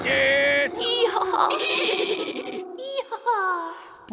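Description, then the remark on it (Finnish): A pony from the book 'Pulupoin ja ponin loisketiivis kirja' whinnies loudly, high-pitched calls that shake and slide downward, repeating near the end over a busy background of other sounds. “Rooleissa Puluboy ja poni.”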